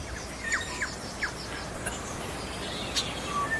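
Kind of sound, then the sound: bird, sparrows chirping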